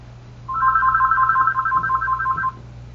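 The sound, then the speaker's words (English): A phone rings with a rapid, warbling electronic trill lasting about two seconds, fairly loud, over a low steady hum with no one speaking, heard on the line of a phone-in meeting. “Hearing a phone ringing, if you could mute your line, please.”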